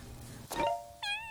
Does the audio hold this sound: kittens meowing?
yes